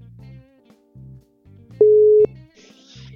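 A telephone ringback tone sounds over the line on an outgoing call, a steady electronic beep that swells loud for a moment, with low rhythmic pulses underneath and no talking.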